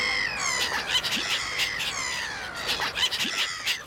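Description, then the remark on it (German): A chaotic chorus of voices imitating black-headed gulls, overlapping harsh squealing laughs and squawks from many people at once, loud and continuous for the whole stretch. “Also holt euch alle Leute um euch herum zusammen und macht's wild durcheinander. Dann wird's ein echtes Möwenstimmchaos.”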